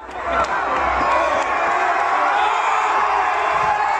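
A large crowd at a 2020 Black Lives Matter protest in Bristol, England cheers and roars continuously, celebrating a statue of slave trader Edward Colson being pulled. A dense wash of many voices with occasional whoops and shouts rising above, sustained and loud throughout.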